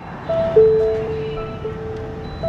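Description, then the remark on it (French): Ambience of an Amazon distribution centre in Brétigny-sur-Orge, France, during the Christmas rush, where workers, robots, trucks and parcels cross all day: a steady low machine hum with sustained electronic tones and beeps at moderate loudness, and no talking. “Mais d'abord, immersion dans un centre de distribution d'Amazon. Une ruche où se croisent salariés, robots, camions et colis toute la journée.”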